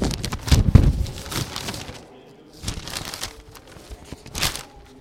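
Papery rustling and crinkling as sheets are handled and turned, a louder burst at the start followed by softer intermittent shuffles and crackles, close by with no talking.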